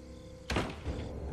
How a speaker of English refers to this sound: He goes back in and closes the door.